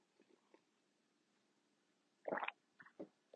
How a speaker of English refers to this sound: If you hear weird noises in the background, it's my brother's dog.